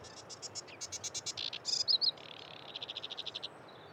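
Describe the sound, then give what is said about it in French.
A small migratory bird, just returned from Africa, sings steadily from the reeds on an early spring afternoon, a chattering song of rapid repeated notes in shifting series with a few sharper whistled bursts, over a soft background hiss. “Ça, c'est une espèce migratrice qui est revenue d'Afrique ces derniers jours, vraiment, vu qu'on est en début de printemps.”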